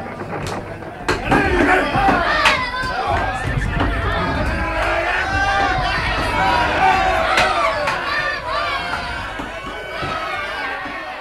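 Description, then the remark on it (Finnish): A village crowd shouts and clamors together, many overlapping voices rising in a loud, steady din, broken now and then by sharp knocks or thuds. “Eiväthän ne vain pelkää, kun noin huutavat.”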